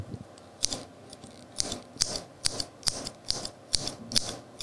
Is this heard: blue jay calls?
no